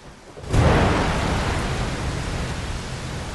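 Steady, heavy rain hisses without pause at a caravan park at night after a low rumble of thunder rolls in and swells, then the downpour continues as a dense wash of sound. No voices.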